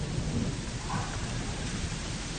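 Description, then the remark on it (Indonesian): Steady rain pours down at a school in a continuous wash of noise, with a deep low rumble underneath like thunder. No voices, just the dense, even hiss of a downpour. “Sambil menunggu hujan reda.”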